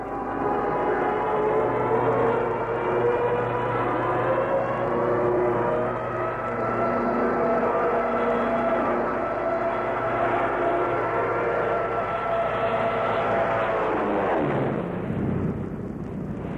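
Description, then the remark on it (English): A low-flying aircraft engine drones loudly and steadily with a rich harmonic roar, then sweeps sharply down in pitch as it passes over and starts to fade. No voices. The plane is diving low right over grass with cattle. “And if Algy dives straight after us with the proctor, we'll follow Algy and he'll follow us, and we'll keep going until the cattle are nearly cuckoo.”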